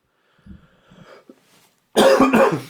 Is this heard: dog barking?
no